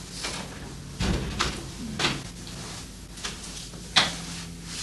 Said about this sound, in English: You can close it. Close the door.